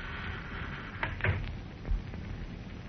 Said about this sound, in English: Well, I'll just sneak through this side door and listen in a bit before breaking up the party. Uh-oh. Hope they don't hear this.